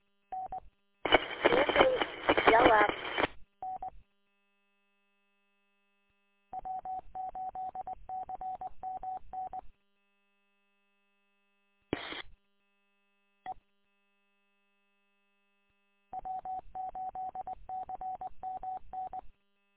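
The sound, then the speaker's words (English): Phone dialing tones as someone calls from their phone, coming in quick beeping runs, two long bursts of rapid keypad tones separated by silence, after a brief rush of harsh static at the start. A faint, steady high tone hums throughout. “Let me dig my phone out and give you a call.”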